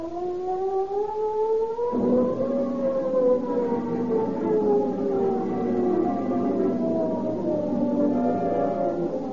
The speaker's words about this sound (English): The ominous wail of the San Quentin siren is the call to arms, which mobilizes Marin County law enforcement officers into a huge posse.